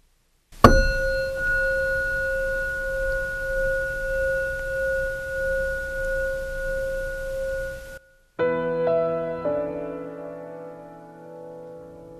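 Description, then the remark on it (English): A meditation chime, rung to begin or end a meditation, is struck once and rings with a steady, bright, pure tone for several seconds. It cuts off abruptly, then a second, softer ring of layered tones slowly fades out. “We will ring the chime to begin and end the meditation.”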